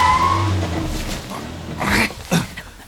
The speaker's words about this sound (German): Doch mitten auf der Strecke machte das Fahrzeug plötzlich ein hässliches Geräusch und unter der Motorhaube quoll Rauch hervor. Der erste Detektiv trat auf die Bremse.